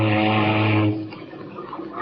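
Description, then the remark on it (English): A single deep, steady ship's foghorn blast, sounded in cold iceberg waters to listen for an echo off nearby icebergs, holds loud for nearly a second, then cuts off and leaves a fading rumble of noise behind it. “Say, don't you ever use your foghorn?”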